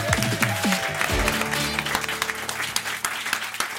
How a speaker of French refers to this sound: Applaudissements pour Catherine Pancol.